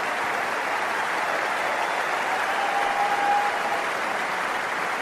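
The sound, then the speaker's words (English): Steady, sustained applause from a large crowd at Center Court at Wimbledon, a reception for tennis player Kevin Anderson, fills the whole clip, a dense even patter of clapping with no voices standing out, at a consistently moderate level. “So Kevin Anderson got a nice reception from the crowd there at Center Court at Wimbledon.”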